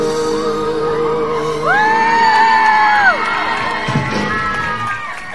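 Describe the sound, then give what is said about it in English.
A concert crowd in Scarborough cheers loudly and steadily, with a long, high whooping shout rising above the roar midway and scattered yells throughout. “Ooh, a bit more of a crowd.”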